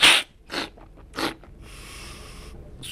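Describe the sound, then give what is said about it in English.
Short, airy bursts of slurping and snorting as a coffee roaster cups samples of a batch of freshly roasted coffee: three quick ones in a row, then a longer hissing slurp and one more sharp intake, loud and noisy with no talking. “a procedure that involves a lot of slurping and snorting.”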